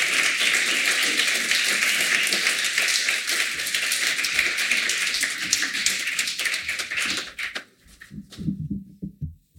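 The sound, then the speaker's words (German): Sustained audience applause as Maxi Blaha, Dietmar Grieser, Ruth Beckermann and Olga Neuwirth are called onto the stage, a dense crackle of many hands clapping steadily for about eight seconds before fading abruptly into a few scattered claps and low murmuring. “Den Applaus nehmen wir gleich mit.”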